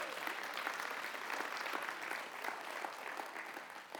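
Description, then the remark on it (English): An audience filling a room at a morning event on baseball's opening day applauds steadily, a dense wash of overlapping claps holding at an even, fairly loud level for several seconds with no one speaking. “Yeah, give applause.”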